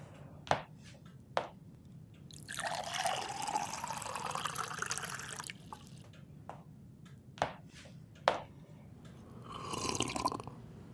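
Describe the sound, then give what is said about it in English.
Water pours steadily into a glass for about three seconds, then a shorter pour follows, with sharp clinks of glass before and between the pours. No one speaks. “Planting a thought in my head just to get you a glass of water seems lazy”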